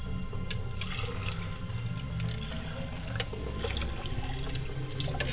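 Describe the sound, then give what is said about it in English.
Water splashes and trickles continuously as someone washes face, hands and elbows in a ritual before a libation prayer, with occasional sharper splashes over a steady, moderately loud wash of running water. “Now take the water and wash your face, hands, and elbows, and say, Ashe.”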